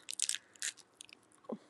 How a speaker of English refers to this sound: I know, you can hear me eating. Some good granola bar.